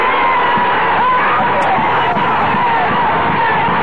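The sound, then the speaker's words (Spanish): A large crowd roars and shouts continuously at a rally in the Plaza de Mayo on 1 May 1974, a dense, loud wall of voices throughout, with no clear individual words standing out. “No me equivoqué, ni en la apreciación de los días que venían, ni en la calidad de la organización sindical, que a través de 20 años es de estos estúpidos que gritan.”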